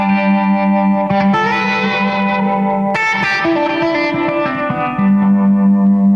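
A guitar through a reverb pedal with tremolo, sustained chords pulsing in a steady wobble and washing into a long reverb tail, changing chords a few times, loud with no voices.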